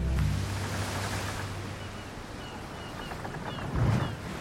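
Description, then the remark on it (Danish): A steady wash of ocean noise out in the middle of the open sea rolls on without pause, broad and rushing, with a low rumbling swell underneath and a slightly louder surge of water near the end. No voices. “Den første sørøverhistorie, vi har til dig, starter ude midt på det åbne hav.”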